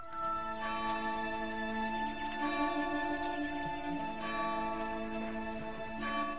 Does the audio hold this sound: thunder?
no